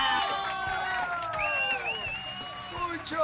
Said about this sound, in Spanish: Un fuerte aplauso